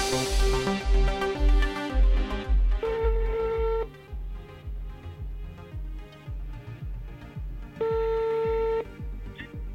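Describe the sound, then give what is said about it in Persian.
Two steady telephone ringing tones, each about a second long and several seconds apart, play over a rhythmic instrumental music bed with a thumping beat. A Radio Sevina show host is placing a phone call to a guest, a blind track and field champion. No one speaks. “تا لحظات دیگر من ارتباط تلفنی رو با ایشون برقرار میکنم و در خصوص دو میدانی افراد نابینا با ایشون گفتگو خواهیم کرد.”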